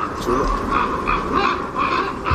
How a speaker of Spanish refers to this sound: Cuervos negros sobre la nieve blanca buscando compañía y protección.